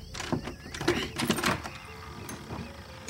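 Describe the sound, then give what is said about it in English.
A cluster of metallic clicks and scrapes, like a key jiggling and turning in the lock of a black door, followed by a quieter, lingering rattle. “Starts with the key to the black door. Cough it up. Come on, Key. Turn.”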